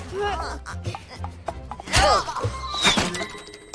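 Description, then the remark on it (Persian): An arrow hits the bullseye of an archery target with a sharp, solid thud, followed by a second impact, while excited voices and background clatter carry on around it. “جانمی، زدی تو خال.”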